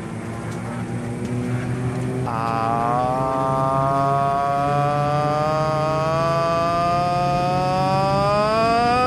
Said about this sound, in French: Avion.